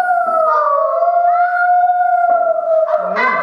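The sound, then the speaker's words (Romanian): A wolf howls in one long, sustained tone that slowly bends in pitch, loud, with a rougher, wavering break near the end and no talking. “Mie îmi plac lupii. Și el se trezește noaptea și face un zgomot, dar nu înțeleg că știu zgomotul ăla.”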